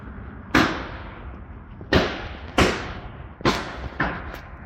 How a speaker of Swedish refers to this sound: Ja, det är mitt i festförberedelserna som det plötsligt börjar smälla. I närheten av en frisörsalong vid Vaxala torg börjar skotten vina. Ett vittne fångar det hela på film.